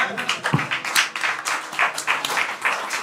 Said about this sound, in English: Well, clap it up for that shitty segment.